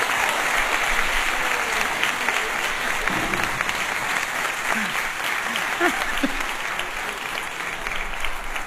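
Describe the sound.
Steady audience applause fills the whole stretch, a dense wash of many hands clapping at an even, sustained level, with a few faint voices surfacing briefly beneath it.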